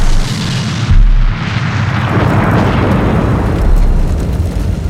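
An overheated gasoline tank explodes with a loud boom about a second in, followed by a sustained roaring, crackling rumble like a fireball burning on, with no voices.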